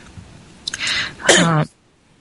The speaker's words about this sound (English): Sorry, I didn't mean to cough in this speaker. I happened to accidentally push unmute before I could cough.